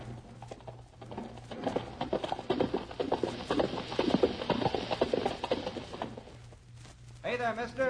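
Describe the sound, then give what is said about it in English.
A rider whipping his horse down a trail in a hurry: the horse gallops with rapid, rhythmic hoofbeats that grow louder as it approaches, then stop abruptly. A man's voice speaks briefly at the end, over a low steady hum. “look at that rider coming down the trail. He's whipping his horse to a lather.”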